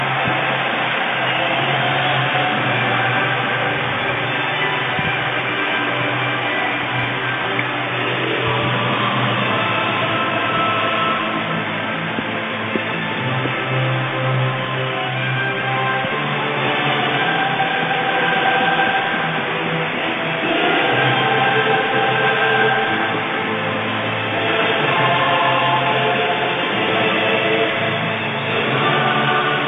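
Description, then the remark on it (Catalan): A huge stadium crowd at El Madrigal, Villarreal's stadium, sings the Champions League anthem together before Villarreal play Manchester United, a loud, steady roar of massed voices that swells in places and holds for about thirty seconds with no one speaking over it. “Això era, així vibra i silla i canta el Madrigal l'arribada de la Champions.”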